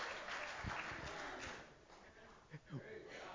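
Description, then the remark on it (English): An audience claps for the Lord after singing, in a steady, dense wash of applause with scattered voices and a couple of louder thumps near the end. “Give the Lord a clap offering today or something.”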